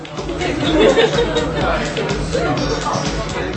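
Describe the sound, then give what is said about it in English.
A steady hubbub of many overlapping young voices fills Pevex, a crowded 1970s-themed bar on a party street in Warsaw, Poland, with indistinct chatter and occasional louder exclamations rising over a constant low murmur. “On one of Warsaw's popular party streets, young people crowd into a bar where everything, from the derelict retro furniture to propaganda posters, is designed to remind you of the 1970s.”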